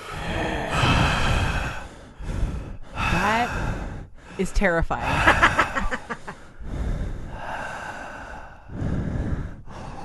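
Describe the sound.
Someone imitates an overly heavy breather: a series of loud, rasping, drawn-out breaths, broken by a brief spoken reaction and a short burst of laughter-like voicing.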